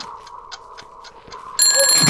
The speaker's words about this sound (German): Ach, deswegen stellst du dir einen Wecker. Und auf wann hast du ihn gestellt? Ja, wird wahrscheinlich jetzt bald klingeln.